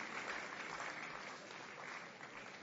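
An audience at a church women's fellowship event claps steadily to welcome speakers, a dense, continuous patter of many hands that holds at an even level throughout without rising to a peak, with no voices standing out.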